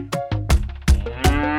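A cow moos loudly, a few short, deep lowing calls in quick succession with no voices around it.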